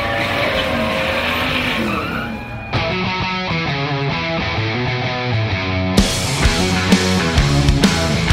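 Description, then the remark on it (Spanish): Loud race car engines are started and scream at high revs as drivers Daniel Cortés and Manuel Matamoros press the accelerator fully, their pitch climbing and dropping in quick steps as gears shift, with a sharp burst of renewed roaring partway through. No one speaks. “se encienden los motores.”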